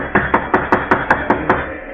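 A steady run of about eight sharp, evenly spaced knocks on a door, quick and firm, over a constant hiss of background noise with no voices.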